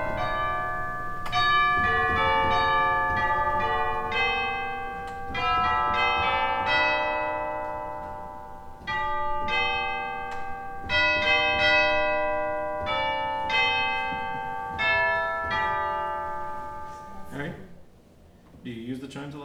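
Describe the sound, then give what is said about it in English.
Bright, bell-like pipe organ chimes ring out in a steady melodic sequence, each struck tone sustaining and overlapping the next, resonant and fairly loud before fading near the end. “Chimes way over there, the pipes right here, I can imagine.”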